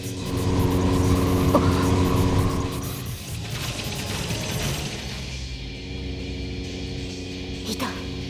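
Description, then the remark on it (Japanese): Rider's flying chariot, the Gordius Wheel, lurches into motion with a loud, droning engine-like rumble and rising whine, then the roar drops away and fades lower as it speeds off eastward. “やはりライダーは戦車で移動し始めた。”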